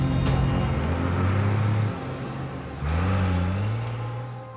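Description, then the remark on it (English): A getaway truck engine revs loudly and pulls away, leaving Rome, its pitch climbing, dipping at a gear change, then rising again as it drives off. No one speaks. “Instead, he was arrested and his getaway truck left Rome without him.”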